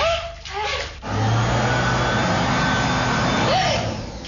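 A vacuum cleaner switches on about a second in and keeps up a loud, steady whooshing roar close by until the end, with a brief voice-like sound before it starts.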